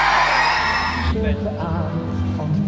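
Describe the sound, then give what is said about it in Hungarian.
An audience at the Viva Comet awards roars with loud, dense cheering that drops off after about a second, leaving scattered whoops and yells ringing out over a lingering murmur. “Ilyen a drága jó közönség!”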